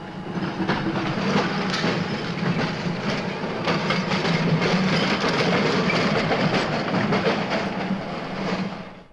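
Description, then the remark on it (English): The special tram number 120 rumbles steadily along its rails as it emerges from the depot, a low heavy drone with a scatter of metallic clicks and clatters over it, staying loud throughout before tapering off at the very end. No one speaks. “And a Camberwell, here is the special number 120, just emerging from the depot.”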